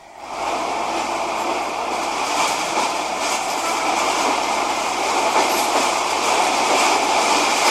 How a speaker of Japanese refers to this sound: あ、ほんまやね、今だから北行きの電車やったよね、もしかしたら、 ね、 うん、どっちかわかんないですけど